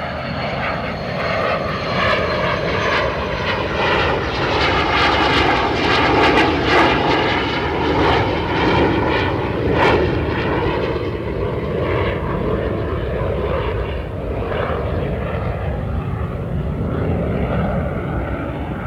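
A loud, steady airplane engine roar passes overhead, with a rising and falling whine of harmonic tones across the whole stretch, continuous, with no voices.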